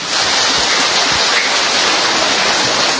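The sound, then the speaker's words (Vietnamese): A crowd breaks into a dense, steady round of applause, many hands clapping at once in a continuous roar of noise for about three seconds, with no voices over it. “Rồi vỗ một tràng pháo tay.”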